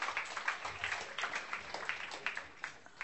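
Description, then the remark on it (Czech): A crowd applauding steadily for a few seconds to welcome a guest, a dense, crackling patter of many hands clapping at once, fairly soft, with no voices standing out. “Pojďme mu dát teplý potlesk.”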